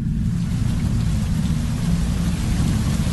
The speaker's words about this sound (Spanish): Justo en ese momento se soltó la tormenta.